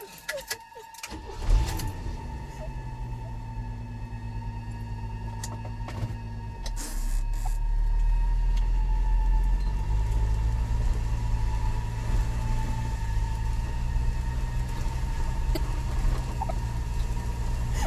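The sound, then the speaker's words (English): A four-wheel drive vehicle's engine cranks and starts after a brief clatter, idling with a low rumbling drone, then grows louder and steadier as it pulls away and keeps driving along a cracked, partly caved-in highway. “Thank God for the four-wheel drive.”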